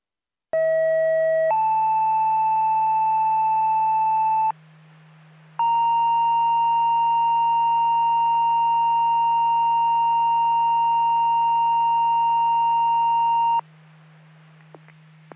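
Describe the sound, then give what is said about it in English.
A two-tone fire department pager test alert: a short high tone steps to a lower one, then after a brief gap a long steady tone holds for about eight seconds, loud and electronic over a constant low hum. “Please disregard the tones and reset your pagers on the test.”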